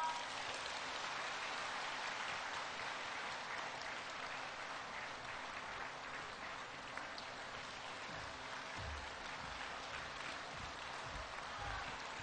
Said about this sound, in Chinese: 现在，让我们用最热烈的掌声，恭请尊敬的卢军宏台长。